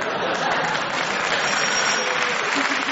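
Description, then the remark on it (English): Steady, loud applause from an audience, a dense wash of clapping that holds at an even level for the whole stretch, with no voices standing out. “He's hesitated for applause”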